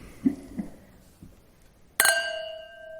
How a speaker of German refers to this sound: Jetzt stoßen wir einmal an.